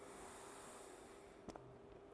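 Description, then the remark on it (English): A long, soft deep cleansing breath drawn in through the nose during a guided breathing exercise, a steady airy hiss lasting a couple of seconds, quiet, with a brief sniff-like catch near the end. “Let's do it again. Breathing in”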